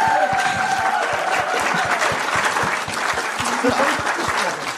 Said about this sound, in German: Und einen riesen Applaus für sie.